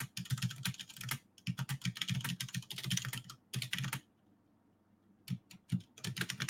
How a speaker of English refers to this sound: We'll just finish this up here. I'm just typing this message here.